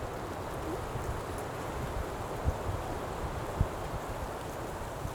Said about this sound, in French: Et est-ce que tu es sensible au son? Au son qui émane de la nature, comme aujourd'hui, oui. le vent là qui bruisse dans cette sapinière?